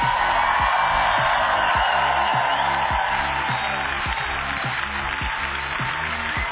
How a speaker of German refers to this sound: einen dicken Applaus!